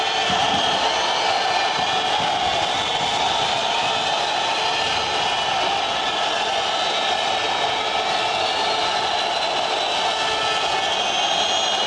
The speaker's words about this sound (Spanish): Pues escuchamos los pitidos aquí en el estadio nuevo colombino y yo creo que no es para menos,